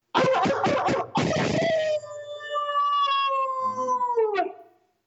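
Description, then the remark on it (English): A person imitates a dog's howl: a few rough, breathy bursts, then a long sustained wavering tone that slowly falls in pitch and fades out, loud. “you got a really good howl, and I think you need to share it with our crowd.”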